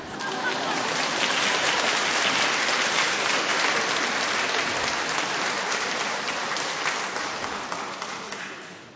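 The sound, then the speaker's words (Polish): A crowd applauds steadily for about nine seconds, a dense, crackling wash of many hands clapping that holds at an even loudness and tapers slightly at the end, with no voices standing out. “A czemu tak oklaskujecie?”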